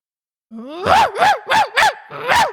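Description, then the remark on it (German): A person imitates a dog barking as part of an animal-guessing game: a rising whine slides into a quick run of about five loud, voiced woofs, with no other sounds around. “Ja gut, das ist ein Hund.”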